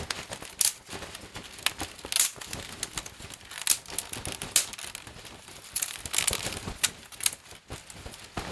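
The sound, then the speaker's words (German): A foley fire crackle: dense, irregular crinkly snaps and pops with sharper bursts scattered throughout, steady and fairly quiet, with no voices. “So, und jetzt mache ich die Flamme dazu und du machst das Knarzen.”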